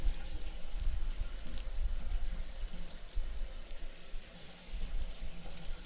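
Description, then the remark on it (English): Steady running shower water hisses and splashes continuously, with scattered droplet spatters on top; moderately loud, with no voices. “Yeah, I'm in the shower.”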